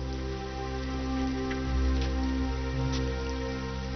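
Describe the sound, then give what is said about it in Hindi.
Steady rain falls throughout, a soft continuous patter with occasional slightly sharper drops, even in loudness, with a low constant hum underneath and no voices. “देखिए बारिश हो रही है।”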